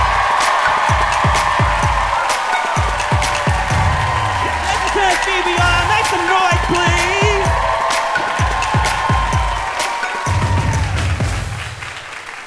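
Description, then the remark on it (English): Loud, sustained applause and cheering from a comedy show crowd for comedian Alex England, the final act of the evening: dense clapping with whoops and shouts rising over it, holding steady for about ten seconds before tapering off near the end. “Please give it up for Alex England.”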